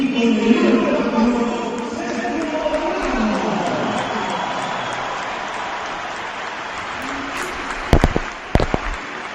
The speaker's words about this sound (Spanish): Oye, es larga la ovación, no está nada mal, ¿no? Sí, pero no es... No es atronadora.